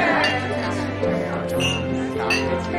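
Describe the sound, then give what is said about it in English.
Glasses clink together in a toast to a friend, a couple of bright ringing chimes over the murmur of a chatting group. “So, I want to propose a toast to our good friend”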